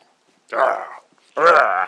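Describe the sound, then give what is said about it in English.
A German shepherd dog named Vance lets out two short, harmonic grumbling whine-growls in quick succession, fairly loud, like playful noises made while mouthing and play-biting, with quiet pauses around them. “You're meant to be a big, fierce German shepherd, Vance, and you are not being very fierce.”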